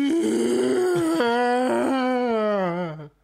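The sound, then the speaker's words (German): A voice imitates a whale call as the punchline of a joke about a whale walking into a bar: one long, wavering moan held for about three seconds, its low pitch swelling and dipping in slow glides before trailing off. Loud and alone. “Und der Wal, was sagt”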